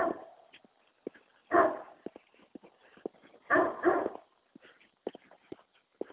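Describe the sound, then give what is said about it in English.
A dog barks in two loud, harsh bursts a couple of seconds apart, with softer whimpers and short yips scattered between, with no talking. “Oh, hush, dog.”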